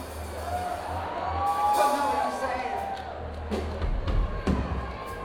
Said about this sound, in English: It's a tad cacophonous out there, ladies and gentlemen. It's hard to distinguish one screaming voice from another.